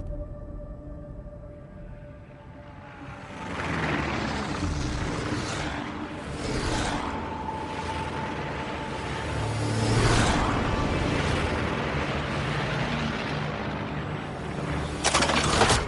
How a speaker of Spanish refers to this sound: Aquí solo hay aviones que suenan, ¿eh?